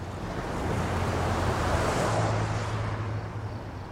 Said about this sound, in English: She used to say that the cars in the night could sound like the ocean.